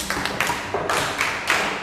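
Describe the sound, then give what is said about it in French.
A classroom group claps in unison to applaud a pupil's correct answer in a lesson on the cardinal points, a steady rhythmic pattern of about five sharp, moderately loud bursts in under two seconds, with no voices over it. “Applaudissons.”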